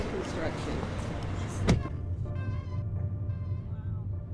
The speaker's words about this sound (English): We got into her car, and as I got myself settled, she fiddled with the radio.